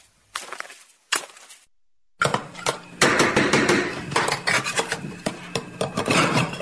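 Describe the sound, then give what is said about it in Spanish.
A couple of sharp metallic knocks, a short pause, then continuous busy clattering and scraping of pots and pans by a cook in a kitchen, fairly loud, with no one talking. “¿Es un cocinero cocinando gusanos y cerebros?”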